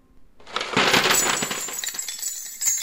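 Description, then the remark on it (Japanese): A dense shower of countless gold coins clatters and jingles onto a floor like rain, starting abruptly and continuing as a loud, bright stream of overlapping clinks, with a final burst near the end. “もう一つ変わった雨の音がにわかに床の上から起こったのは、というのは真っ赤な石炭の火が私の手のひらを離れると同時に、無数の美しい金貨になって雨のように床の上へこぼれ飛んだからなのです。”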